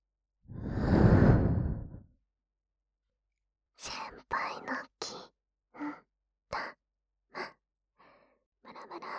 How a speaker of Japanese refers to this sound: こんな風に、先輩の大好きな、熱い吐息を流し込んで、おちんちんイライラさせてほしい。